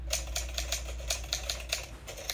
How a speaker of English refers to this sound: Oh, it's a sound effect of a typewriter I found. Look at this old sound effect of the typewriter. Whew. This one's from a long time ago. The first sound effect of a typewriter.